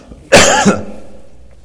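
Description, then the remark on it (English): A single sharp, forceful cough bursts out, harsh and throaty, from someone trying to clear a popcorn husk stuck in their throat, then trails off into quiet. “I've been in the elders meeting and I got a popcorn husk hung right here in my throat.”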